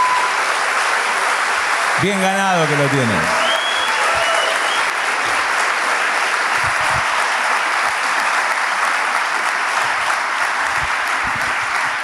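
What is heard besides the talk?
audience applause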